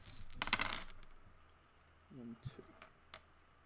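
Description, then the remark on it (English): A handful of 15 dice clatters across a hard surface in a dense burst of rapid clicks, then settles into a few scattered taps, with a brief low voice murmuring partway through. “I have 11 successes off 15 dice.”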